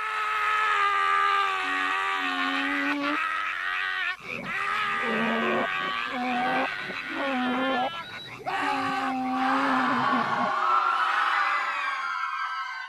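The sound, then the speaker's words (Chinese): A man in a courtroom lets out from his throat a string of loud, strained, agonized, eerie howls, like an ox bellowing, a donkey braying and frogs croaking, while tearing at his hair, tie and shirt, rising and breaking in several long bursts with no other talk. “发出一声声怪异而恐怖的叫唤，像牛吼，像驴叫，像蛙鸣。”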